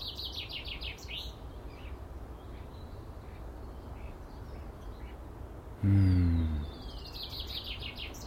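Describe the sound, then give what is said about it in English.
Birds chirp and trill in a garden in spring, in repeated bursts over a steady background hum, with one louder, lower honk-like call breaking in briefly near the end. “And the bird song.”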